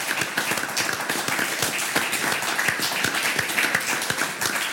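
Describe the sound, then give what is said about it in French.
A crowd applauds a notary guest on the show Les clés de la ville, recorded at the Maison du notariat. Many hands clap in a dense, even patter that holds at a constant loudness from start to finish, with no voices breaking through. “On peut vous applaudir,”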